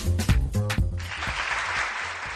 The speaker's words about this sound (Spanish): Y este aplauso al semáforo en verde porque el alcalde de Valladolid, Óscar Puente, ha anunciado la ampliación y transformación del actual aparcamiento subterráneo de Isabela Católica